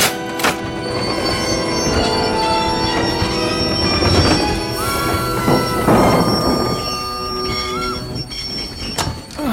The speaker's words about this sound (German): Was für ein Lärm. Und warum hat der Zug so abrupt auf freier Strecke gebremst?